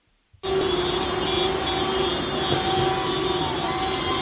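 Delivery vans honk their horns together in a convoy in the centre of A Coruña during a transport strike: a continuous, steady wall of sound after a brief quiet start, with engine and traffic rumble underneath and no pauses.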